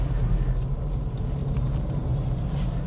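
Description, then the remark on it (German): Steady low engine rumble and road hum heard from inside a car pulling into a parking space, continuous and fairly loud, with faint indistinct voices in the background. “sind im Auto unterwegs.”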